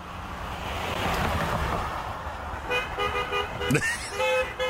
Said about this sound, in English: I just looked really solemn and sad. Yeah. And people were just, honking like crazy.